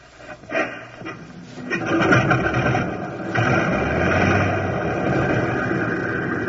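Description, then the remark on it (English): A propeller aircraft's number one engine coughs and sputters into life, then builds into a steady, loud droning roar with a deep rumble, with no one speaking. “Select the number one engine on, sir.”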